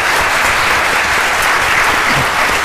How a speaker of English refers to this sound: So again, let's give them a round of applause, parents and servers.